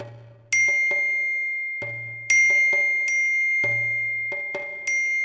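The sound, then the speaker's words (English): Repeated bright electronic text message notification chimes from a phone ring out in quick succession near midnight, each a sharp ding with a sustained high tone, arriving in clusters over a low hum, fairly loud with no talking. “It's nearly midnight when my phone starts receiving a flurry of text messages.”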